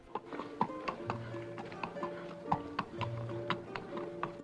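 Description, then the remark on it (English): Horse hooves clip-clop in an uneven, steady rhythm at moderate volume as a rider enters a quiet town at night, with occasional snorts from a couple of horses tied up outside a tavern, over a low, steady background hum. “Up ahead, a couple of horses are tied up outside a tavern.”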